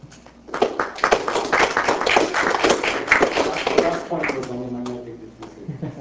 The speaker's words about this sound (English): That's right, there was a pause before the applause.